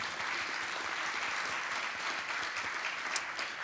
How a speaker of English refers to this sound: A round of applause for Marcus.